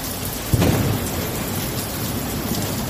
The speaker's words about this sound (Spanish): El primer episodio de precipitaciones y tormenta del verano ha atravesado la región sin dejar incidencias graves.